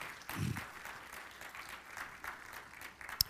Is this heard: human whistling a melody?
no